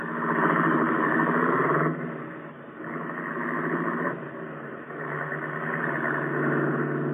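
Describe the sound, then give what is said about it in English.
A car engine rumbles steadily, its pitch and loudness shifting in a few broad swells as the car is turned around, with no voices present. “Turn the car around and let us go home.”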